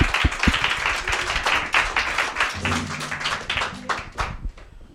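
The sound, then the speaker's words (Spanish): An audience claps and applauds for several seconds, a dense, steady patter of many hands with a low hum running underneath through the middle. “Un gran aplauso.”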